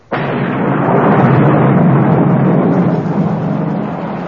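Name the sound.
heavy rain shower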